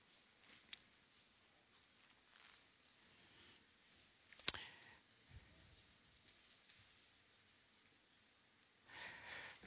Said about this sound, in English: I still hear pages turning, so I'll let you get there. It's a welcome sound. I haven't heard that sound in a while.